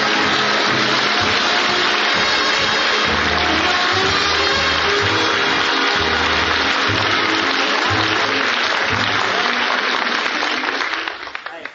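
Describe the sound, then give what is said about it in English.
A large audience gives a big warm welcome to Phil Harris, applauding steadily for about twelve seconds, a dense, loud wash of clapping mixed with laughter, tapering off slightly at the very end. “I can't tell you what it means to me to come out all by myself, and you're all laughing and you're applauding and you're glad to see me, and I just want to tell you I love you for it because I need you.”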